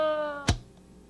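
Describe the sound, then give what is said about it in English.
A recorded voice imitating a cat gives a single drawn-out meow, clear, which cuts off abruptly with a brief thump, leaving faint background hiss. “Meow, meow, meow, meow.”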